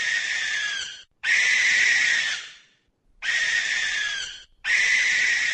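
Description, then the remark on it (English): A common barn owl gives four harsh, hissing screeches, each about a second or more long, separated by short pauses. The raspy, breathy shrieks are loud and there is no talking. “That, as you might have been able to tell, is the common barn owl.”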